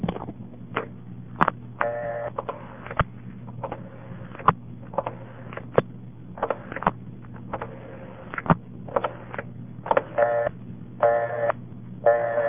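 A phone number is dialed through step-by-step telephone switches: bursts of sharp mechanical clicks and brief buzzing clatter, separated by pauses, over a steady low electrical hum. No one speaks.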